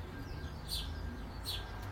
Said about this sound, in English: But even just being able to enjoy the bird song.